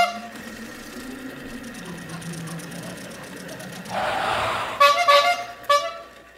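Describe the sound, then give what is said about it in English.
A strange car's engine hums and then zooms up with a rushing whoosh as a stranger arrives, followed by a few bright, quick horn toots near the end, fairly loud. “a stranger zipped up in the strangest of cars.”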